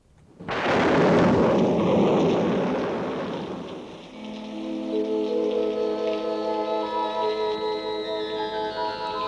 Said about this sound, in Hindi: बरसात ये बिजली की गरज तार चमक, ये घटाओं का अंधेरा, ये हवा की ठंडक, सर्द झोंकों से ठिठुरते हुए